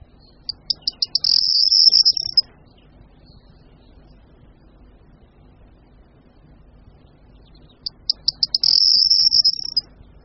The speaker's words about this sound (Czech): Jak jsme právě mohli slyšet, zpěv strnadu lučního je velmi jednoduchý, několika slabiční a stále se opakující trylek. Každá strofa je přitom zakončena charakteristickým vrzavým zvukem, který nám může připomínat chrastění svazku klíčů.